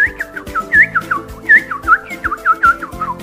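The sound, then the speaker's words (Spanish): A person whistles a lively, warbling imitation of birds singing happily in a forest, with quick chirpy trills and swooping notes repeated over a few seconds, clear with no talking. “Los pájaros cantaban alegremente.”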